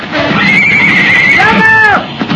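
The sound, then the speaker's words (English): A horse whinnies loudly, a wavering high-pitched neigh that rises and then falls away over about two seconds, with some background noise, as riders at the top of a bank call their horses. “We can call our horses.”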